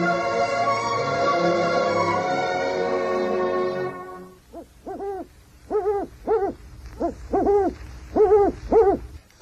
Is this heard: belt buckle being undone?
no